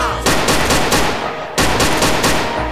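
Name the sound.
automatic gunfire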